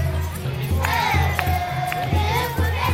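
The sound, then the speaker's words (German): A large outdoor crowd of thousands of spectators, packed on a huge grandstand and behind barriers at a procession on a decorated square, cheers and shouts continuously, with high children's voices rising above the roar. Steady low rumble underneath, loud, no clear speech. “Tausende Zuschauer drängen sich auf einer riesigen Tribüne und hinter Absperrungen.”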